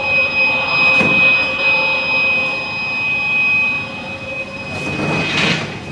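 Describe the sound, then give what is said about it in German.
The door of a KWL dry-cleaning machine, which resembles an oversized washing machine, is opened over a steady mechanical hum with a thin high whine, marked by a brief rush of noise about a second in and a second, fuller clatter near the end. “Eine KWL-Reinigungsmaschine. Da tun wir jetzt die Türe ganz normal auf.”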